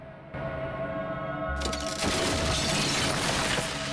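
A sudden bang as Danko shoots a frozen Tracy through the chest in an icy car park, giving way to a loud, sustained burst of shattering as her frozen body breaks apart into scattering pieces, with no voices over it.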